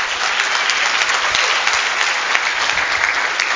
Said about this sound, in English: If you agree with that, give God a hand clap.